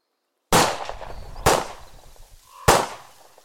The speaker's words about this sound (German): feuerte Schüsse in den Wald. Er hatte schon so lange nicht mehr mit einer Pistole geschossen, als dass er sich ohne Übungen auf den Fall einlassen wollte.